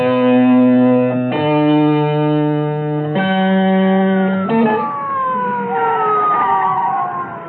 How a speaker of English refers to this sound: What's the matter with you, Davis? I told you no sirens.